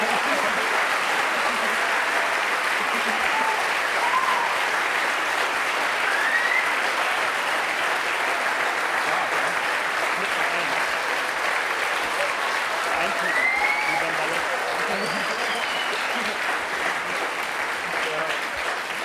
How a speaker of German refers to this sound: Das war ein fetter Applaus, Dankeschön.